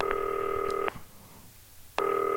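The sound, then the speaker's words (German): Electronic telephone ringing tones over the line of a call placed from a green telephone: a steady buzzing tone sounds for almost a second, pauses, then starts again. Clear, with no voices. “Klingelt.”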